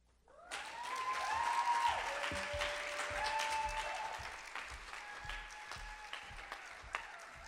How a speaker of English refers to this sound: One more round of applause for Olivia, please, and keep your applause going for Jordaine Lewis.